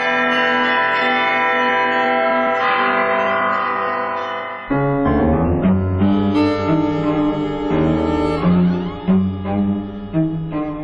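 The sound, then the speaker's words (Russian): Church bells rung by Alexander Zhikharev, bell ringer of the Kolomenskoye museum, a bell master and inventor, ring loud: first a sustained shimmering wash of overlapping tones, then a lively run of many bells struck in quick, rhythmic succession, with no voices. “Александра Жихарева, звонаря музея Коломенское, колокольного мастера, изобретателя, записала Тамара Ленкова.”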